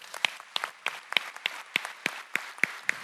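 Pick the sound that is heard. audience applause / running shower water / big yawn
audience applause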